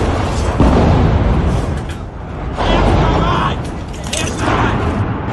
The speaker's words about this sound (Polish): Rosyjski ostrzał był bardzo intensywny. Świadczą o tym m.in. publikowane przez mieszkańców Charkowa nagrania, na których słychać serię eksplozji i widać akcję ratunkową.